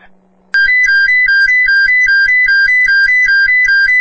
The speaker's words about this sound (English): Command to St. Mary's, sound the evac tones. I want everybody out of the structure.